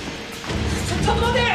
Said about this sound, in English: They hurry towards the room. They slide open the door.